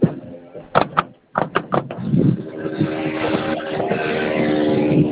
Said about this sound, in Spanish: Ah, que se intenta forzar la puerta, compañero.